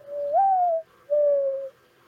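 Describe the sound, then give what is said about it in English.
A bird calls twice, each note a smooth, drawn-out hooting tone, the first rising then sagging, the second steady and slightly falling. Clear, with nothing else audible. “And it's not birds chirping. It's that it's bird.”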